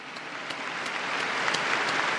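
Steady applause from a large group for consecrated religious men and women at the Day of Consecrated Life in the Parish Church of Mary Help of Christians at Rakovnik, Ljubljana, a dense, even patter of many hands clapping at once with no voices standing out.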